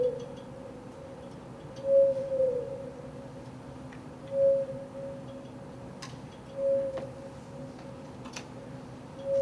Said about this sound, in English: And each one of these is a note of a song. It'll sound much like an owl. And I sped it up 30 times. See? Why is it doing that? Here we go. This was 650 miles away. This whale was off of Canada, and this was recorded off of Bermuda.